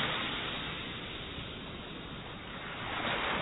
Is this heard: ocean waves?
yes